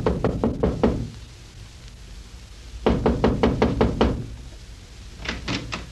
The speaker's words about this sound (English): It is now early evening, and we find him knocking on the front door of Squire's home.